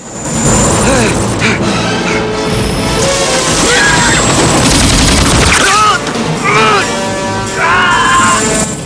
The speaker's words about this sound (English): Troutman fires a mounted gun as Rambo lobs the Molotov at the tank.